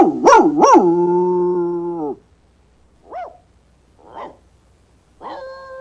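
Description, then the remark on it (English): A dog, the Colonel, barks a message: two sharp barks that stretch into a long, steady howl, followed after a pause by three shorter, softer yelps. Clear, with no other sounds. “The colonel barks.”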